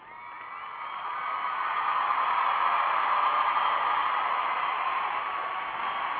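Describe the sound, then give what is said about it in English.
A sustained burst of crowd applause and cheering swells up in the first second, then holds as a dense, steady roar of clapping and whoops before easing slightly at the end. No one speaks. “And we got to give a round of applause to our callers and our email messages.”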